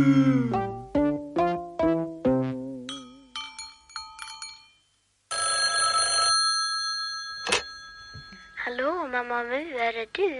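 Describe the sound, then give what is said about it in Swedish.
A telephone rings with a run of bright, repeated chiming tones, followed by longer sustained ringing notes and a warbling electronic trill near the end, fairly loud. “När hon tror att ingen glor svarar hon i telefon.”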